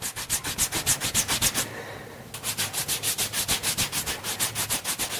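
Rapid, rhythmic wiping strokes, a steady back-and-forth rubbing with a soft, moist swish, pausing briefly partway through before resuming at the same brisk pace.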